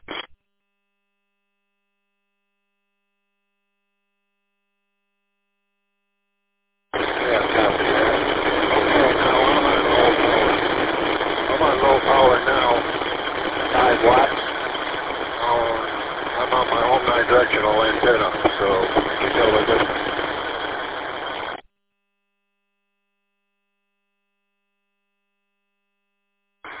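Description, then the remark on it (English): A band-limited radio transmission through a repeater carries a steady engine drone beneath a voice, lasting about fifteen seconds between stretches of silence, the rumble fairly loud and partly covering the talk. “You sounded pretty good through the repeater, but that engine noise starts to cover you up a little bit.”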